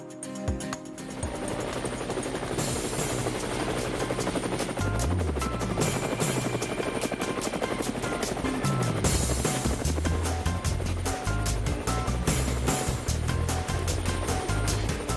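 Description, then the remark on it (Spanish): A loud, steady helicopter rotor thrums, its rhythmic chopping beat continuous over a roaring engine wash for the whole stretch, with no voices. “Bueno, y la zapa del helicóptero a mí me ponen ya dentro del helicóptero.”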